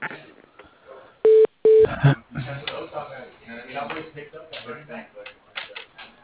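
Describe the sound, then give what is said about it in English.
Two loud, steady touch-tone beeps sound in quick succession, each about a third of a second, amid faint clicking and shuffling, as a phone call is put through to an extension at Hospice of Amador and Calaveras, followed by a muffled voice talking over the phone line. “Sure, yeah, I can put you through.”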